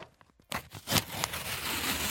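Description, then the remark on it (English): Paper rips for about a second and a half, a harsh, crackly tear with a few sharper bursts along the way, starting after a brief quiet moment. “Who wants to hear the sound of paper ripping?”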